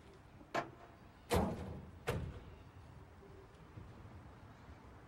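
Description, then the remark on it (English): Three sharp, solid thuds of a car door being shut, spaced less than a second apart, with the middle one loudest, followed by a low, steady rumble of the car's engine being started. “Joel Barish wakes up to the sound of a car door closing and an engine being started.”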